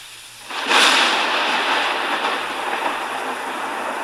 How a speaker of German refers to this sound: Unwetter, Blitze, Regen, wer alle Frankenstein gesehen hat, weiß, was für ein Gewitter dort im Film tobt.